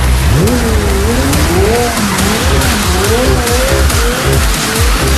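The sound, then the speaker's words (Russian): A race car's engine whines up and down in pitch while its tires skid and squeal as it crashes into a wall, all loud and continuous over a steady roar, with no voices. “И приложила стену просто на ровном месте.”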